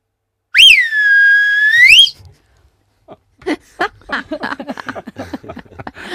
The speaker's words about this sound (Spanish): Entonces, ¿aprendiste mucho a silbar? Ya sabía porque soy de barrio y hay que... Pero a ver, ¿cómo le silbabas a las ovejas? Te silbo aquí.